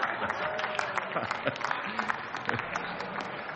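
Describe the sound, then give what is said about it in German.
A parliamentary group claps steadily for a few seconds after a speech in a debate, a dense, even patter of hands with a faint murmur of voices mixed in. “Und besonders freue ich mich über den Beifall aus der Mitte meiner Fraktion, Herr Fraktionsvorsitzender.”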